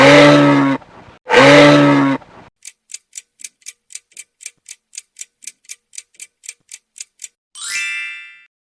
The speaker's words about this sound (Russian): Конечно же, это трубит лось.